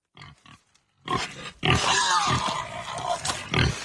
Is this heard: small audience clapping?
no